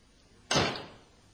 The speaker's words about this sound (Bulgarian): Заключете вратата.